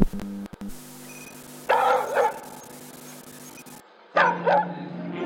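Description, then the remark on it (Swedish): A dog barks in two short double bursts a couple of seconds apart, fairly loud, over a steady low electronic hum; the Soviet space dog Laika returning from space on Sputnik 2, in a cinema advertisement. “Höstens stora biografhändelse där den sovjetiska hunden återvänder från världsrymden.”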